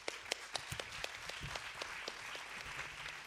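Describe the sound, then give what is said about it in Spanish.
An audience breaks into applause for a woman speaker as the microphone is passed to her, a dense wash of many hands clapping with a few sharper individual claps standing out, sustained steadily at moderate loudness for a few seconds. “Así que otro fuerte aplauso para ella.”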